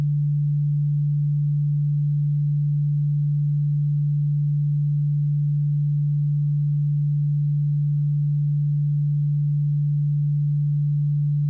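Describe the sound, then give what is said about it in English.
A single steady low pure tone hums continuously at an even volume for the whole stretch, with no talking and nothing else around it. “Now, in your left ear, I am going to play a frequency of 146 Hz.”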